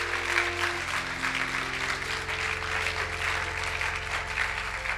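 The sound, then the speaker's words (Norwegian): Sustained audience applause at a church service for those who raised their hands to believe in Jesus, a dense wash of many hands clapping at steady volume for several seconds, with a low droning tone running underneath. “Det vi gir tidenes applaus til deg som har rekt opp hånda si i dag.”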